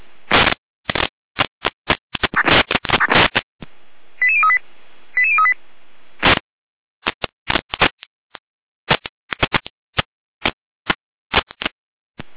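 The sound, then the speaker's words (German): A rapid string of sharp electronic radio dispatch alerting tone bursts, clipped and rhythmic like coded signaling, with a pair of brief steady beeps midway, loud with no talking, alerting fire brigades to a triggered fire alarm system at a factory in Heberndorf. “Leitstück Gerende mit Alarmierung.”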